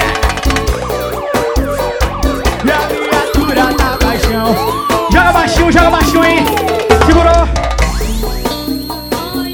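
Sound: siren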